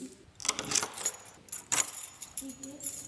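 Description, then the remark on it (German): A castle guide's bunch of keys, used to unlock and lock each door on a castle tour, jangles in irregular metallic bursts, bright clinking and rattling, with a faint low tone near the end. “Was man unbedingt braucht im Schloss bei einer Schlossführung sind Schlüssel.”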